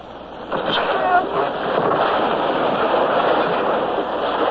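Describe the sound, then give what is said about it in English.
A wave crashes in with a loud, hissing roar that surges up after a brief moment and then holds as a steady, broad rush of churning water and spray. “The wave came. And in we went through a welter of spray and foam.”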